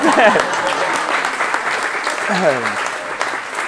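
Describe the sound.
A steady burst of applause from a crowd for the band's tour nanny, dense clapping that holds at an even level throughout, with a few voices briefly calling out over it.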